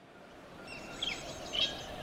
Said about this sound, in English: Listen to the birds.